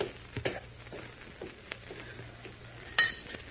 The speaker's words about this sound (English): I didn't know any other French. That is why I dropped the glass.